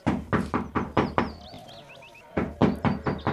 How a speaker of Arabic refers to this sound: ولما دخلت البيت وشاهدت صغارها فرحت بهم، لكنها بعد قليل سمعت طرقا على الباب.